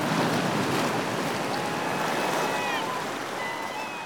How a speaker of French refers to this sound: Même sans voir l'océan, on pouvait deviner sa colère. Le vacarme tonitruant des flots violents explosant sur la côte de granit tailladé depuis des siècles, s'intégrait avec celui du vent dans une symphonie terrifiante.